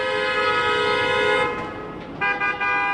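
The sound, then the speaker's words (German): Car horns blare in a long sustained honk, then a second horn joins after a brief dip, loud over a low rumble of street traffic, as drivers in Geneva, Switzerland, honk at a garbage truck blocking the street. “Auch wenn die Leute sehen, dass es nicht mehr geht, dass man nicht vorwärts kann, hupen sie noch.”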